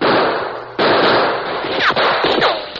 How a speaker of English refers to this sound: Answer those shots, Tonto. Keep them at that window.